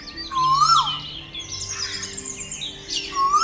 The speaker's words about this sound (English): featuring live birdsong from 22 different locations throughout Europe and beyond.